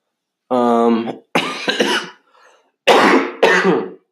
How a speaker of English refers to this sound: Hey, that's the first cough.